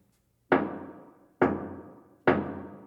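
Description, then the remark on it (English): Three firm knocks on a wooden cottage door, evenly spaced, each with a short resonant ring that fades before the next. No voices, just the knocking in a quiet setting. “But instead of going his way, he turned back and took the straight road to the old woman's cottage and knocked at the door.”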